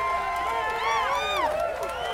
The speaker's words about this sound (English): The crowd cheered at the chance to hear from another whistleblower in person, former National Security Agency executive Thomas Drake.